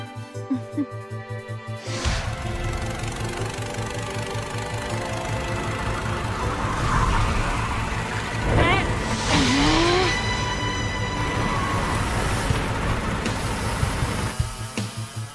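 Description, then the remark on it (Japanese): A loud racing car engine roars steadily for most of the lap, its pitch rising and surging briefly midway before settling back into a sustained drone, the car running slightly faster than before and hardly braking through the lap. “でもなんで？あのエンジンじゃあれ以上スピード出ねえって。”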